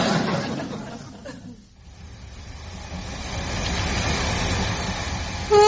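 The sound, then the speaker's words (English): A steady, loud mechanical rumble of the dawn train running on rails, dipping briefly before rolling on continuously, with a sharp tonal blast right at the end. “Why do we have to catch the dawn train?”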